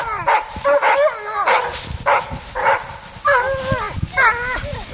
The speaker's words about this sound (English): The dogs have been barking from the moment the truck pulled up.